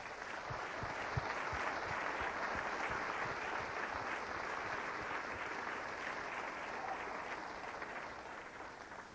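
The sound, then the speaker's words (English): A crowd at a crusade event claps steadily for several seconds for the staff, a dense, sustained wash of applause that holds a fairly even level throughout with no one speaking over it. “How about giving the staff an applause?”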